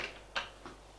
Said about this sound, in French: Puis, ils entendent des pas dans le couloir. On frappe à une porte. La porte qui s'ouvre.